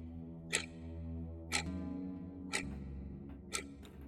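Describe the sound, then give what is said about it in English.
A clock ticks steadily about once per second, four crisp ticks over a low, sustained musical drone, with no voices. “Because, for Anthony Templet, let's start the clock.”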